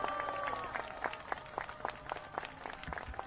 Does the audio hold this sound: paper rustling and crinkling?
no